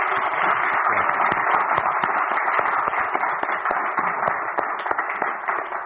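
A crowd applauding steadily, dense overlapping claps forming a continuous bright wash with scattered sharper individual claps, sustained at an even loudness for several seconds with no voices.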